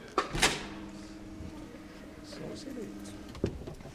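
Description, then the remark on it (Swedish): A click and thump as a button is pressed, then an automatic door's motor hums steadily for about three seconds as it swings open, ending in a solid clunk. Faint voices murmur in the background. “Att man trycker så då öppnas dörren automatiskt.”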